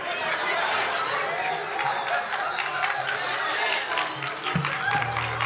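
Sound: a few people clapping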